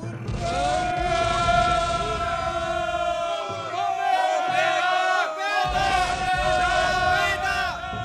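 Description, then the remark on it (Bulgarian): A mass of Slavic soldiers' voices roars battle cries as they advance on enemy trenches under fire, in a sustained, loud wall of shouting, with strained, wavering yells overlapping continuously and swelling again toward the end. “Голям брой от них се бяха вече повалили, но живите вървяха напред с викове.”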